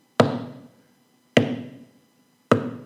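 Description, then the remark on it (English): Three heavy hammer blows driving nails in land at a slow, steady pace, each a sharp, loud crack with a short ringing decay. No voices are heard. “Probably didn't have nails, but to make it dramatic, driving nails in. Sawing the wood.”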